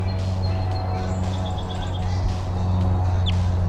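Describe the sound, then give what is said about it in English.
A quick run of short, high-pitched bird chittering calls, Type 2 calls from a bird known as 301, then one sharp rising chirp, all fairly faint over a loud, steady low hum. “That's 301 on the side giving Type 2 sounding calls.”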